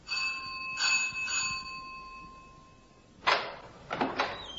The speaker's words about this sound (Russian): Позвоню вот в эту дверь.